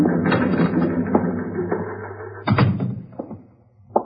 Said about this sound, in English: It was 12 noon when the stenographer completed typing the statement